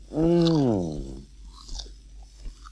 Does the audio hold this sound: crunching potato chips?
yes